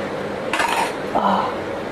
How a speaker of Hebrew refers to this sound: סכין נפל.